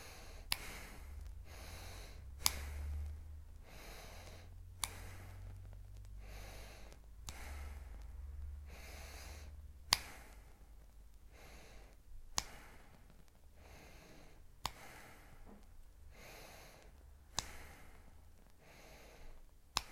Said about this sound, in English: Return to your natural state of breath. Third round, when you're ready, breathing in.